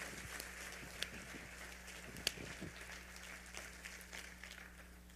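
An audience claps steadily for several seconds, a dense, even patter of many hands with a couple of sharper individual claps popping out, no voices, over a faint low hum.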